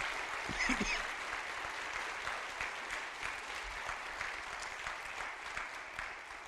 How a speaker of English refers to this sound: I think it'd be very, very, very appropriate for this church to give them a nice round of applause, okay?